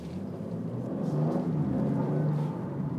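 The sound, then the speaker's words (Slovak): An N Line car engine hums and rumbles steadily, swelling slightly as it accelerates, with no voices. “A tu, my hovoríme, počkaj, zase, aha, spovnujú sa nám tu auta N-line-ový, a ešte ak to bude fastback, no jasné.”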